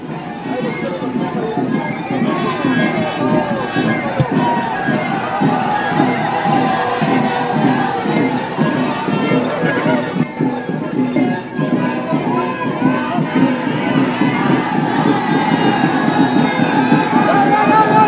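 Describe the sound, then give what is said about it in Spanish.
A dense crowd gathered at a Mapuche ceremony murmurs and stirs steadily for the whole stretch, many overlapping voices blending into a loud, continuous hubbub with no single speaker standing out. “Con sonido y ruido de movilización de gente aglutinada de ceremonia mapuche, estamos comenzando este segundo bloque para hacer la entrevista de la semana.”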